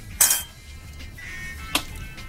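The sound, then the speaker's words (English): Cups clink together in a toast: a bright clink near the start, a faint ringing tone after, then a second sharp tap. No voices. “Hey, cheers.”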